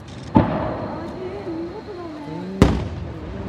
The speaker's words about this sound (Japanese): 花火の真ん中にもう一個花火あったじゃないですか。八重神っていうんですよ、花火。八重神で、なおかついろんな色がパパパッとあったからしてたよね。八重神変化菊っていうね、種類のね、花火なんですね。